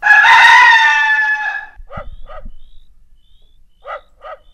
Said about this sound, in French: Chanson-là, le coq au début, là. Il me fait faire le saut à chaque fois.